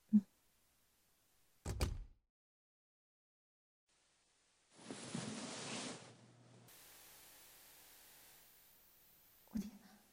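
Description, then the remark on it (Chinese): A door opens with a dull knock, a rush of sliding and rustling noise, then a low steady background hiss before another soft thud near the end. “刚刚听到开门的声音”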